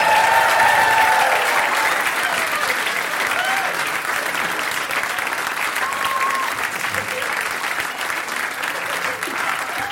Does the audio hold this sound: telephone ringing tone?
no